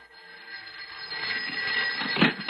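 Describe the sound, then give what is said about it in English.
An electric telephone bell rings steadily on a Saturday night with a harsh, buzzing metallic tone that grows louder over a couple of seconds, with no voices over it. “Well, now, who would be calling at this time on a Saturday night?”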